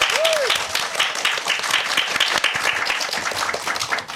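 Sustained applause from a studio audience, a dense steady patter of many hands clapping at once for about four seconds, fairly loud and close, with a brief whistle near the start.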